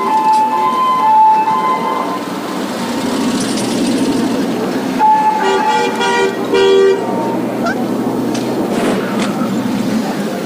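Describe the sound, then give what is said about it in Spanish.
Sirens from many police vehicles wail over steady street traffic noise on Pasteur, Viamonte and Tucumán streets in Argentina after a bomb exploded at the AMIA building at 9:53 in the morning, their tones rising and overlapping, with occasional horn-like blasts mixed in and no one speaking. “Gran cantidad de móviles policiales, las sirenas que no dejan de funcionar.”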